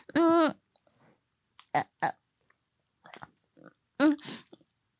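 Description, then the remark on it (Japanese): Eating noises of someone eating a beef bowl (gyudon): a short voiced grunt, then scattered wet smacks, gulps and chewing bursts with pauses between them, no talking. “なんか、こんなに、牛丼を中に入れるのは、苦戦するのは、初めてかも。”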